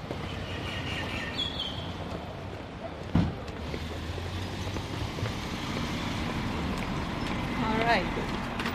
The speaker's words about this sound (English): Come out onto Simon Street, which is a pretty well-known Auckland street. Yes. And there's a bus pulling away at the bus stop.